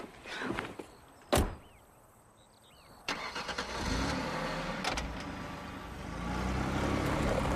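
A woman climbs into her car: the car door thumps shut, followed a moment later by the engine cranking to life and settling into a steady, rumbling idle that grows slightly louder toward the end.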